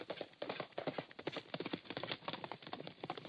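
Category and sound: animal, horse hooves clip-clopping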